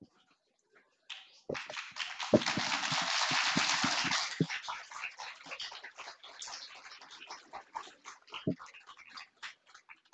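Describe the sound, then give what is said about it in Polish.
An audience applauds at the start of a meeting as a guest speaker is introduced: a dense, loud wash of clapping swells up, then thins into scattered individual claps that keep going and slowly taper off toward the end. “Dziękuję bardzo za te oklaski, za tą życzliwość już na początku naszego spotkania.”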